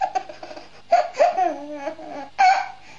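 A baby-laughter ringtone plays: a small child's high, squealing giggles come in three or four bright bursts, fairly loud, with no one talking.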